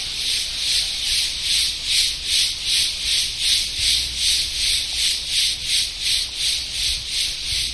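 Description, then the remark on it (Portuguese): Cicadas (cigarra) sing in trees in Brazil in a loud, high, rasping buzz that pulses steadily about three times per second, an unbroken chorus with no voices. They are singing to each other. “You know, this is cigarra. It's an insect that you have on the trees in Brazil. And yes, they are singing to each other.”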